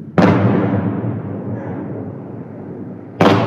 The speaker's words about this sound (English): Before daylight, the buzzing of drones can be heard above the city, followed by loud explosions as they were taken down by air defense systems.